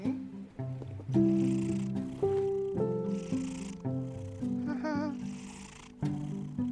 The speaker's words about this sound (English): Did you just purr?